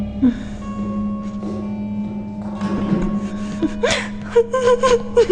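A person cries and whimpers, with shaky gasping breaths and rising sobbing wails that grow louder near the end, over a steady low hum.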